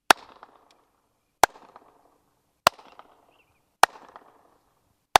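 A man claps his hands five times at a slow, steady pace among the ancient buildings of Babylon in Iraq, built under King Nebuchadnezzar II, each clap followed by a ringing echo that rebounds off the high walls and fades before the next clap. No voices are heard.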